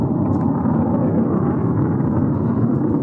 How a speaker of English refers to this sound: Are there planes just circling around here now? Oh, I tell you what it is. I can see them now. It's fighter jets. Or at least not commercial planes.